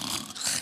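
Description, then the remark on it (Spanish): A person imitates snoring with one short, raspy, throaty snort, fairly loud, lasting under a second. “¿Quién va a dormir en un cuarto con otras mujeres que roncan?”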